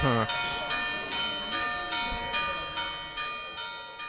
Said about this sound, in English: Ooh. For whom the bells toll.